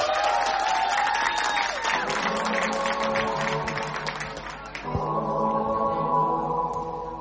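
A crowd applauds a singer stepping onto the stage to sing a song, with dense, steady clapping and some cheering for several seconds, while sustained musical tones rise beneath it. The clapping then thins out as the music carries on.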